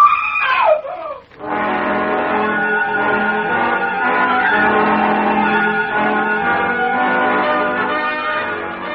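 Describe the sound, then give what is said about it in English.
A woman's high, piercing scream that slides downward in pitch, followed by a loud, sustained wailing tone that holds steady for several seconds with no talking. “The last thing I heard before being blown to bits was Mona screaming.”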